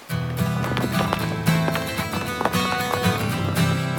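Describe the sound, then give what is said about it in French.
Horse hooves clip-clop in a steady, uneven rhythm at moderate loudness as a horse is ridden on the island of Wauka, set against a constant low humming drone, with no voices. “Rude, habitué à parcourir l'île à cheval, il ne s'embarrasse pas de paroles inutiles.”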